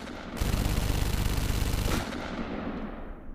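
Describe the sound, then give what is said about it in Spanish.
A loud, rapid burst of gunfire from agents shooting people in an execution rattles off in a dense string of shots for about a second and a half, then cuts off, leaving a lingering rumble and noisy tail. “Son abatidos con una nueva ráfaga de disparos.”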